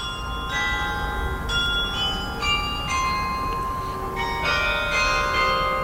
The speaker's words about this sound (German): Das erfahren diejenigen, die mittags um 12 staunend vor dem Rathaus im fränkischen Fürth stehen. Die 25 Glocken des Glockenspiels läuten nämlich einen der berühmtesten Songs der Rockgeschichte.